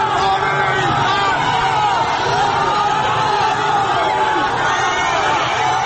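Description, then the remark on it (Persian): A large, frightened crowd chants slogans in a smoke-filled street amid tear gas while looking for a way to flee: a dense, continuous roar of overlapping voices, loud and agitated throughout, with shouts rising and falling but never pausing. “حالا خودش را در حلقه جمعیتی می بیند که هراسان هم شعار می دهند و هم راهی برای فرار باز می دهند.”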